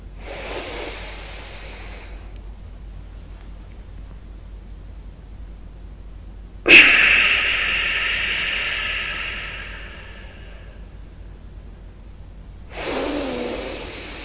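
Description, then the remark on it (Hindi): Forceful bhastrika pranayama (bellows breathing), the first step of the exercise: three loud, hissy breaths through the nose, the middle one a sharp, explosive exhale that fades out over a few seconds, with quiet pauses between and no talking. “इसी सोमन में रमण करते हुए अब हम स्टार्ट करते हैं भस्त्री की प्राणायाम का पहला स्टेप।”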